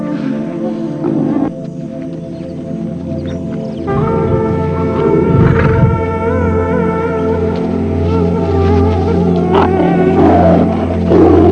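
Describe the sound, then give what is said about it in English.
A lion roars and growls loudly in a long, continuous stretch at a mother cheetah that has thrown herself in its path, with deep rumbling snarls and sustained tones underneath. No one speaks. “And the mother cheetah throws herself in its path without a moment's hesitation. By risking her own life, she distracts the lion and gains time for her cubs to get away.”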